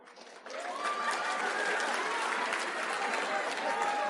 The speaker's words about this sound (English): Sorry, that round of applause felt really weird.